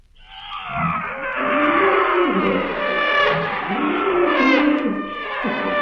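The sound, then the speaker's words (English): A loud, continuous jumble of zoo animal noises from giraffes, horses and an elephant, snorts mixed with wailing, bellowing calls that overlap and swoop up and down for several seconds, with no talking. “Of course, they can't speak, so we'll have their reports in the usual way, an animal snorts.”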